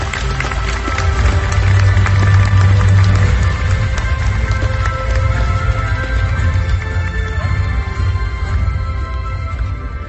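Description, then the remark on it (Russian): A large audience applauds at a charter-signing ceremony in a dense, steady wash of clapping that holds for about ten seconds and thins slightly at the end, with faint sustained tones underneath. “А вас, друзья, попрошу украсить аплодисментами нашу прекрасную церемонию.”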